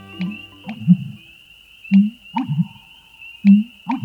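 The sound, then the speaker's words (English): Deep, resonant booming calls of an American bittern, heard as three gulping pumps that repeat at a steady rhythm, with a thin, constant high whine running underneath throughout. “This bird's deep, resonant calls have earned it nicknames like the Thunder Pumper and the Stake Driver.”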